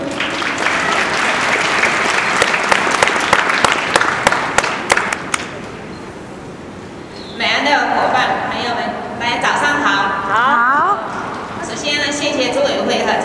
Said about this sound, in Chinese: 掌声有请。